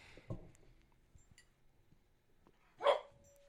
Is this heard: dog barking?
yes